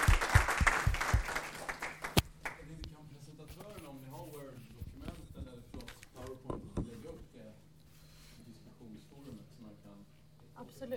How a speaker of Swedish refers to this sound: Då ger vi dig en applåd.